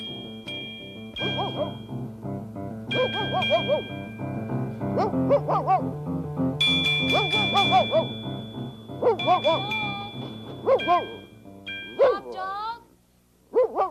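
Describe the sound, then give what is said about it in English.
A human voice imitates a dog, barking in repeated short bursts, while steady ringing chime tones sustain underneath and a bell-like ding sounds now and then. “Lady Aberlin is trying to find out why Bob Dog is barking so much.”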